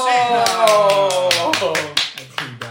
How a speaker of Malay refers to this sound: Oke, mari kita sambut bersama-sama dengan tepuk tangan yang meriah.